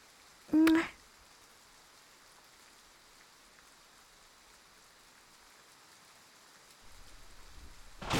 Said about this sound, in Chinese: 这个雷声好大，你可不可以陪我一起睡啊？我有点害怕，好不好嘛？